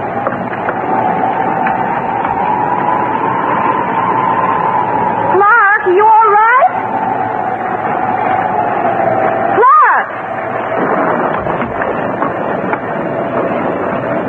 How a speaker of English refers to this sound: The wind's come up.